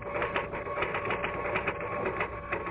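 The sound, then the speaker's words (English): Rapid, continuous mechanical clatter of typewriter typing, keys striking in a fast, steady stream with no pauses, moderately loud, with no voices. “I stayed away from the typewriter, but when I blew my last fiver, I sat down and started to type again.”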